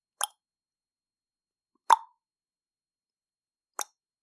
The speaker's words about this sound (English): Wooden leg hitting the pavement.